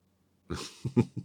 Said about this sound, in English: Okay, look, sniffing my chest is one thing, but you squeezing my gumdrop buttons like that?